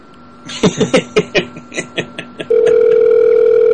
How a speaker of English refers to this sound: Why were you hitting buttons on the phone?